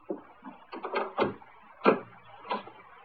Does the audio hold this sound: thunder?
no